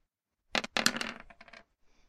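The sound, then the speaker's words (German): Dice clatter across a hard table during a tabletop role-playing game in a quick flurry of rattling clicks, then settle with a few faint final taps. There is no talking. “Ist ja direkt Schaden am Würfeln mit 1000 Würfeln, Alter.”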